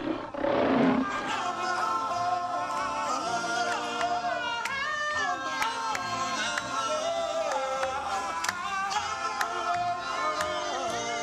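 A lion lets out one loud roar at the very start, then fades beneath a dense swell of dramatic orchestral music that carries on steadily to the end.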